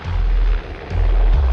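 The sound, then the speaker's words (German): A loud helicopter flies very low over the desert, heading straight for a deer, its heavy rotor thumping in a steady pulse with a brief dip before the noise swells again. “Der Helikopter ist wirklich sehr laut und fliegt sehr tief.”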